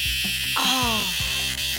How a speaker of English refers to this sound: it's the song of the cicada, right?